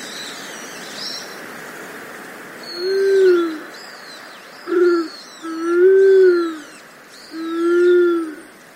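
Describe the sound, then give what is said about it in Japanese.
A Japanese wood pigeon, also called the cow pigeon, about 40 cm long and the largest pigeon in Japan, gives four deep, low cooing moans at a steady pace, each drawn-out, while small birds chirp and twitter faintly in the background. “全長およそ40センチ、日本に住むハトの仲間で一番大きいのがこのカラスバトです。”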